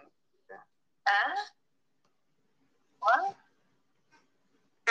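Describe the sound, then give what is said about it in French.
A single voice talks in short, broken bursts with long pauses between them, someone on the phone heard in the background of an online meeting through an unmuted microphone. It is fairly quiet and nobody else is speaking. “On entend quelqu'un qui est au téléphone, là. Il faudrait se mettre en mute.”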